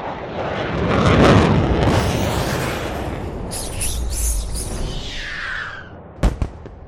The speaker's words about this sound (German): Die Luft-Luft-Rakete explodierte in einer blau glitzernden Wolke.